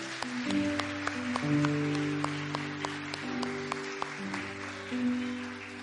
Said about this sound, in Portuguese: Você pode aplaudir ao Senhor por essa palavra? Aplauda Ele.